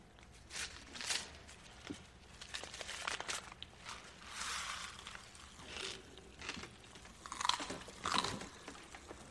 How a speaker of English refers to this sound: Had those before? Yeah, they're Pop Rocks. They crackle in your mouth. Eat some.